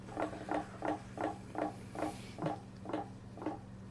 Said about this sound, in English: But let's go ahead and spin that wheel. Here we go.